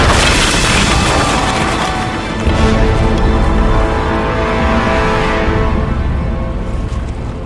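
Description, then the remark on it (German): A massive wave crashes over a ship during a storm at sea in a continuous, thunderous roar of rushing water, loud, with deep booming rumble that slowly fades toward the end. No voices are heard. “Schaut euch diese Welle an, die am Horizont auf uns zuläuft. Das werden wir nicht überleben.”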